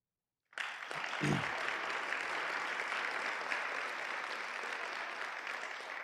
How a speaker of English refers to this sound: And so please, before you don't get up, though, they're going to applaud, but stay seated. Please welcome Deepak Reju.